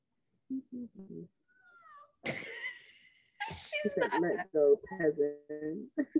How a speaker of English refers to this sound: Come here. This is my cat.